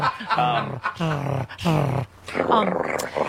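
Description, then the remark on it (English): A voice imitates a cat's purr in several drawn-out, throaty vocal bursts with short pauses between them, fairly loud, with a low rumbling undertone. “I just felt like I was wide awake a moment ago, but now I feel all cozy like a curled up cat on a couch. Such a better morning all of a sudden. Purr.”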